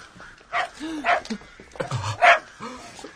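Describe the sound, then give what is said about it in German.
A dog chasing sparrows in a city park on a cold day barks excitedly in several quick, uneven bursts, some yelping and high-pitched, with brief pauses between them. “machte begeistert Jagd auf Spatzen, die emsig auf Futtersuche waren.”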